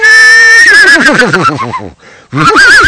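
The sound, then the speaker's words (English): A person imitates a horse's whinny with a loud, quavering voice that trembles and slides downward, breaks off briefly, then resumes with another wavering call. “That's the way you say that, isn't it? Knee, neighing, a horse, neigh.”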